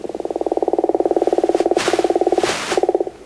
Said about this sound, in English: Once I heard that, to me it sounds like it's a woodpecker pecking. Yeah, the gopher frog.